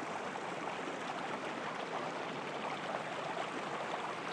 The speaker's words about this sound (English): Into a sort of babbling brook type thing.